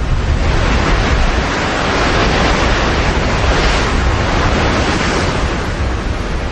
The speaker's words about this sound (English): It's just a gentle sort of background sound of the sea. And there's nothing else to remind you, really, of the 21st century, 20th century, whatever. At any time of the year, you hear the sea in any condition, whether it's a calm sea or a stormy sea.